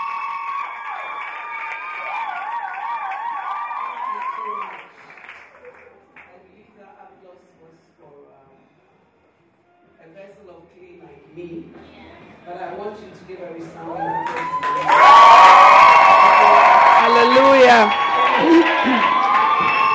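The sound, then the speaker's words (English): An audience cheering and shouting voices for the preacher at first, then a quieter lull, before a loud burst of clapping erupts with whoops and high excited cries that continues to the end. “Applause was for a vessel of clay like me, but I want you to give a resounding applause to Jesus.”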